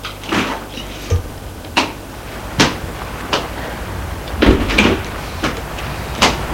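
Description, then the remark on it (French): Doors of a small white electric car are opened and shut several times in quick, irregular succession as people get in, each producing a sharp thud or clunk against quiet background noise, with no voices. “On les fait entrer.”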